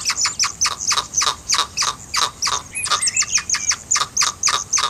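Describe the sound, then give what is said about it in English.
A hyrax calls in a steady run of sharp, high-pitched chirps, about three per second, with a brief warbling trill mixed in partway through; no one speaks. “I'm going to play a quick bit of hyrax sound.”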